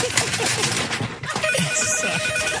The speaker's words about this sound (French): Oh, et parlant de coup de fil, on entend le téléphone du studio qui sonne. Je sais pas si je vais être capable d'aller chercher parce que quand même, c'est derrière.